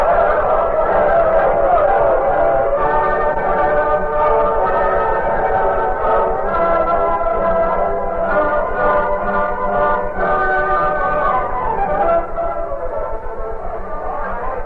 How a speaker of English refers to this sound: As fast as possible, a train was made up and the locomotive fired. Every available man climbed on board. In the caboose, Jeremiah Gregg lay tightly bound. The Lone Ranger and Tonto stood beside their horses watching as the train got underway.